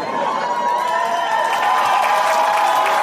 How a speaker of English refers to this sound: Already getting a round of applause.